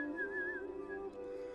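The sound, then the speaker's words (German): A man whistles a short, bright tune with a gently wavering pitch as he walks toward a tunnel exit, clear, lasting just over a second with no talking. “Dann drehte er sich um und ging fröhlich pfeifend Richtung Tunnelausgang.”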